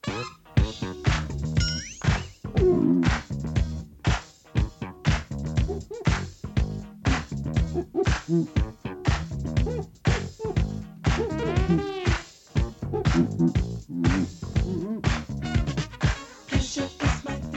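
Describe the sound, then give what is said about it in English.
Funky slap bass with sharp, percussive pops and thumps snapping out in a rapid, syncopated rhythm, loud and up front within a busy band groove, with no one talking. “featured a trebly sound, enhanced by slapping the strings, which created a popping sound”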